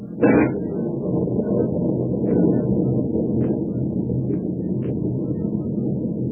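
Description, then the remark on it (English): Storm wind at sea, rising in intensity, roars in a steady, heavy low rumble, opening with a brief sharper gust and carrying faint higher whistles now and then, with no voices. “The storm is rising in intensity every minute.”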